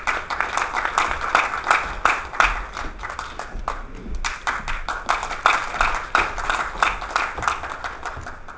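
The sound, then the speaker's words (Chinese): Warm applause from an audience at a lecture, welcoming the lecturer on a rainy day: a dense, steady patter of many hands clapping that continues for several seconds with slight swells and dips, without any voices. “下面就让我们以热烈的掌声有请常老师。”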